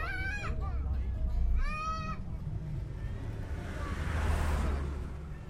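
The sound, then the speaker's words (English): A truck rumbles steadily along a road down the Thailand-Burma border toward a refugee camp, its low engine drone swelling toward the end, while an animal bleats twice loudly in the first two seconds. “I hop in a truck heading down the Thailand-Burma border to another refugee camp, hoping to meet more musicians.”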